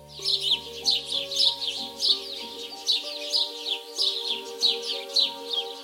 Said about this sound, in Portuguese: E eu gosto tanto de ouvir o canto dos passarinhos desde aquele tempo.